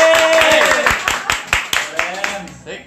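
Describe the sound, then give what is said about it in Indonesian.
A crowd claps to welcome a guest in a dense, irregular burst of sharp hand claps, with voices and a brief cheer mixed in, the applause thinning and fading out toward the end. “Terang tepuk tangan dulu.”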